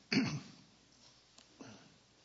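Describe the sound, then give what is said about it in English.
A single sharp cough or throat clear bursts out, followed after a pause by a second, softer throat clearing. “Hope I'm not coming down with a cough myself.”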